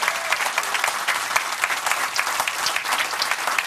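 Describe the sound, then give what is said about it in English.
A crowd applauds steadily, dense overlapping claps forming a loud, even wash of sound that holds without pause from start to finish, with no speech over it, applauding the people being thanked for their roles in a campaign. “Let us applaud them today, friends.”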